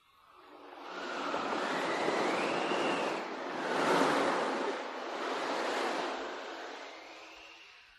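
Broad, rushing sea waves surge and recede in slow swells as the ship Running on the Waves sails before a sharp following wind that hisses over them, building to a loud crest near the middle before easing off.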